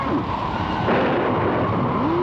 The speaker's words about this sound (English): Rain, lightning, thunder, and a raging sea. Oh, just how friendly can a hurricane be? This storm was a real tiger. It came in a snarling and a growling.